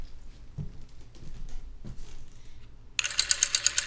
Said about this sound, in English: Rotary dialer, there it is. Yeah, so I'll hold it up to my mic so you can hear the gloriousness.